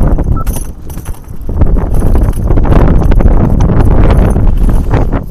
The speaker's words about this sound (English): Okay, apologies there, folks, again for that gust of wind there.